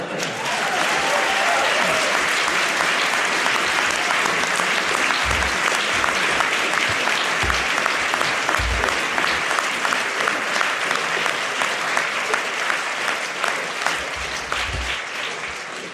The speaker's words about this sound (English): It's a fine rhetorical performance. I saw you applauding during that.